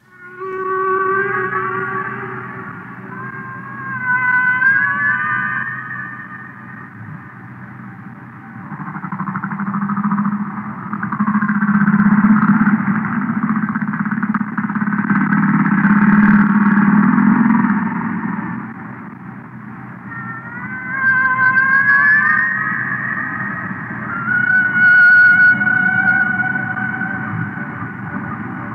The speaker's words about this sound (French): Donc c'est un rorqual, donc une baleine, je ne pourrais pas vous dire laquelle exactement, je ne suis pas encore assez spécialiste